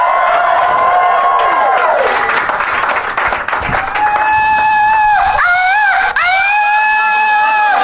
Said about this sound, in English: There it is. Where's the guy that yelled, oh? Hold your hands up, dude. Okay, there he is.